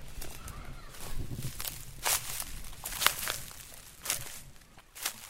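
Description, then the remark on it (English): Footsteps crunch through a field of sugarcane in the Dominican Republic in an uneven rhythm, about seven or eight sharp, brittle crackles over a low rustling bed, with no voices. “Expect a bit of crunching as I move through.”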